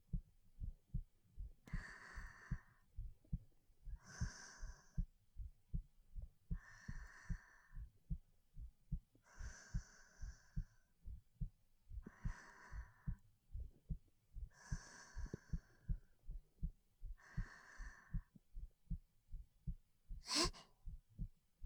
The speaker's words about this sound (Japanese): こんなにぴったりとくっついていたら、もしかして私がドキドキしちゃってるのバレちゃってますか？だったら恥ずかしいな。